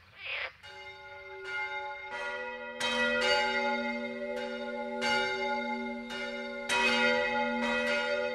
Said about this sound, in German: Sehr gerne geklagt wird in Deutschland auch gegen Kirchenglocken. Aber die sind nur bedingt abschaltbar. Das sakrale Läuten ist von der Religionsfreiheit geschützt. Nur das Glockenläuten als Zeitansage kann nachts untersagt werden.